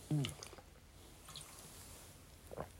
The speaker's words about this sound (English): But, like, I don't know if people have noticed, but, like, I put water drinking, like, in my audios. Because, I don't know. I just need to drink water. All the time. Gotta keep that throat hydrated, you know.